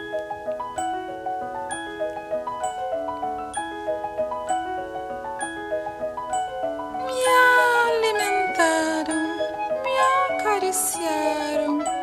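A tinkling melody plays steadily, then loud, drawn-out cat meows with falling pitch rise over the music and continue through the end, several cries in a row, prominent.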